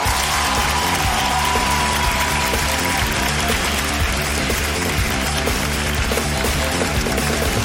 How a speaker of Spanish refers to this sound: Y que siga el aplauso, que no caiga, que no caiga, que no caiga, que no caiga, porque esto es Papelitos del Público por Hablando Huevadas.